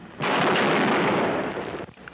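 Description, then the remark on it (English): A single loud sniper gunshot, from an archival recording made in Austin, Texas in 1966 as Charles Whitman fired from the clock tower balcony on the University of Texas campus, bursts in abruptly and holds as a harsh, rumbling roar for over a second before cutting off, with no voices present. “This is the sound of the first mass murder captured on film in American history.”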